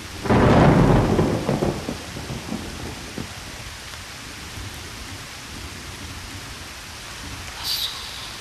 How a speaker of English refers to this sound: The rhythm, the clapping, the thunder and the rain.